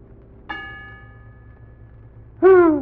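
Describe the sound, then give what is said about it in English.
A single bell, rung by pulling a cord to open something as a sign instructs, gives one bright clang that rings on and slowly fades over a low hum, before a loud voice suddenly cuts in. “Ring it again, story man.”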